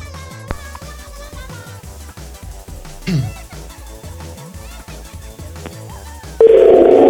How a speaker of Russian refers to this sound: Ой, у нее даже гудок истерический. Если она уже с гудками так истерит.